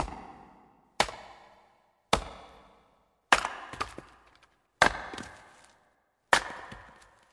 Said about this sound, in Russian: Здесь будет звук топора.